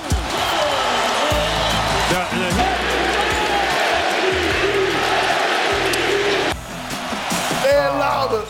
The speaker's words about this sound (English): Well, and then I think the crowd, they may agree with Devin, with what Perk is saying about Devin Booker because he pulls up for three here. And then take a listen to the crowd.